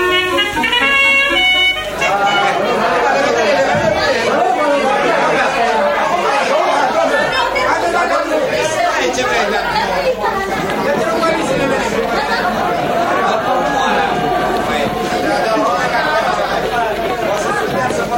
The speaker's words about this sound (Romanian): Dar să vedem ce se întâmplă pe peron. Trenul pleacă peste 1 minut.